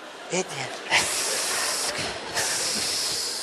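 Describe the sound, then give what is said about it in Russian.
A snake hisses in a long, steady, breathy stream that holds for several seconds, with a couple of short stronger bursts and a brief voice near the start. “И что она на меня шипит-то?”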